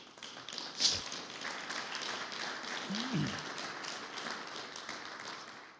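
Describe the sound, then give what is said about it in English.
An audience applauds a graduate of Inspiration Ministries' nine-month program who has moved into leadership in the organization, in a steady wash of many overlapping claps, holding at an even, fairly loud level for several seconds before easing off slightly at the end. “And that deserves a round of applause.”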